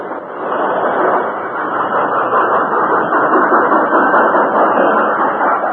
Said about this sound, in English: Almost back to the siding when the Lone Ranger brought the work train to a standstill.